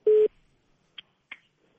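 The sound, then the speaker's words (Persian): A loud, steady telephone busy-tone beep sounds once, briefly, as a caller's phone line to Radio Azadi is cut off, then the line goes quiet apart from two faint clicks. No one speaks. “متاسفانه تلفن اینا هم قطع شد.”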